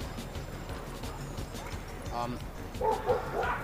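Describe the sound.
Several dogs bark in short bursts at the dog run in Tompkins Square Park, the barks clustering toward the end over a steady outdoor hum with faint voices murmuring in the background.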